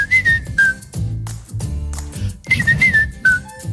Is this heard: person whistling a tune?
yes